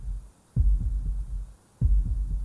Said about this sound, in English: I started by making this heartbeat, which was the foundation of the piece, and I used samples that Brennan passed along to me and combined, I think it's river and gravel and a snip of just a field recording, and made